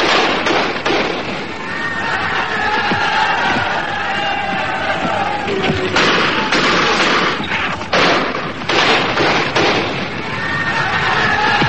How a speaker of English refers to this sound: Meanwhile on Earth, in Ireland, gunfire as the old fight between Catholic and Protestant flared up again.